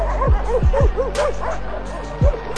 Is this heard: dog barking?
yes